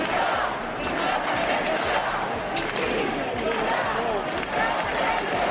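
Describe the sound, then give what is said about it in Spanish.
A dense crowd at a protest shouts and chants together in a steady, loud roar, with overlapping voices and rhythmic thumping underneath, continuous for the whole stretch. “Los gritos fueron...”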